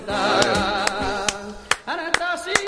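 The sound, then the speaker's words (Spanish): Sharp hand claps, about seven, strike in a flamenco-style palmas rhythm for sevillanas over a continuous wavering melodic tone, the crisp claps standing out clearly above it. “Esto valdría para tocar palmas por sevillanas, porque el retardo, a ver, yo lo hago, tú intenta hacerlo a la vez que yo”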